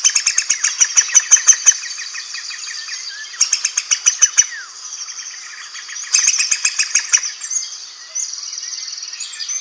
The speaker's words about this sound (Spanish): Trina, verde estridente, un verdecillo.